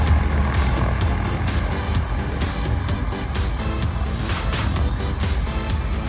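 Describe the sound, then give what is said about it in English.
A steady whirring drone of a small electric aircraft's propeller spinning up for takeoff, much quieter than a combustion engine, with a broad hum and airy rushing noise holding constant throughout. “Fly off into the blue yonder.”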